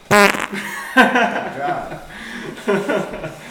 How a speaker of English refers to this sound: Really sounds like a fart.